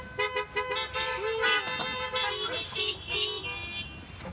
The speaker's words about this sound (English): Let's give a big big honk for all the moms today.